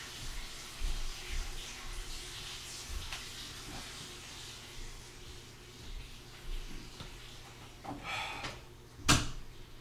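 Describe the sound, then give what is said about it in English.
A bathroom door clicks shut with a sharp knock near the end, after a brief rustle of movement, over a steady background hiss of water running as a bath is being filled. “Wait, let me close the bathroom door.”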